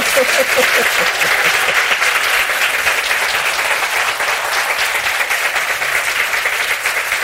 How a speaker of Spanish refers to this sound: ¿Pueden aplaudir para que la gente vea que hay mucha gente allí? A ver.